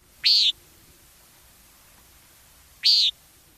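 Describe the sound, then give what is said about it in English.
Two short, nasal, buzzy calls of a common nighthawk (bull bat) on a hot, humid August summer day, spaced a few seconds apart, each sharp and fairly loud against a quiet background with faint low rumble. “But even in these withering dog days of August, there are birds to be seen and heard if one wants to forsake the air conditioning. Because the bull bats are about.”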